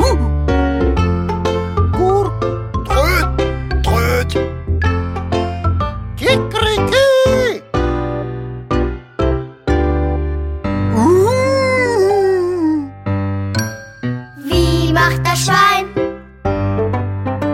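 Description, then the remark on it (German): A voice imitates a wolf howling, drawn-out rising and falling wails over a loud, busy musical backing, with several short yelps and a long sliding howl near the end. “Wie macht der Wolf? Der Wolf, ja, der macht...”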